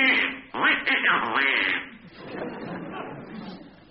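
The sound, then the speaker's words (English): A loud, raspy burst of duck quacking, several quick squawks, trailing off into softer, fainter quacking chatter for the remaining couple of seconds. “So, throwing the egregious duck under the bed, he immediately ate Grandma with dire consequences”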